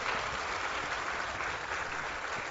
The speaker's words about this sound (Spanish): Yo creo que eso merece todo nuestro reconocimiento y todo nuestro aplauso.